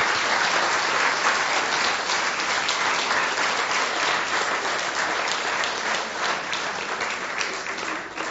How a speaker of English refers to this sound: Let's give them a really big round of applause to show our appreciation.